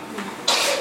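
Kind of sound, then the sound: human body sound, sneeze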